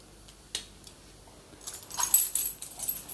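A dog named Ursa huffing and whimpering: a couple of soft clicks, then a run of irregular, breathy, hissy puffs that grow louder and keep going to the end, with no voices.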